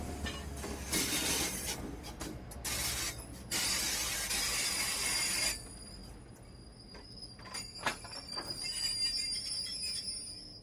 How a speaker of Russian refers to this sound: Поезд заскрежетал тормозами, дернулся несколько раз и остановился у платформы.